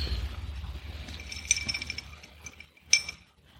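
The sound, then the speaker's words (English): A glass of beer is set down with a couple of bright clinks, a cluster of ringing taps around the middle and a sharper single clink near the end, over a low rumbling background. “But I think I'm going to put my beer down. You got a cup holder?”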